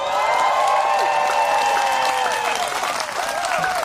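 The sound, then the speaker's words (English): A church audience cheers and applauds steadily as Pastor Rick Warren announces the ordination of the first three women pastors, dense clapping mixed with whoops and shouted voices, loud and sustained throughout with no speech over it. “That says something telling right there, that people are cheering in the audience when he brings up the fact that they're going to ordain three female pastors.”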